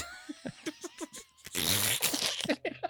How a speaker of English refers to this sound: It's a grapefruit. Press it against the screen.